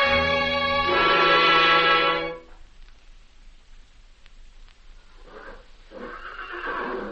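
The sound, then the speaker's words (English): A loud horse whinny rings out in a stable for about two seconds, its harmonic cry wavering and then fading, followed by quieter snorts and shuffling movement. “And do you still refuse the honor of eating with the holy horses?”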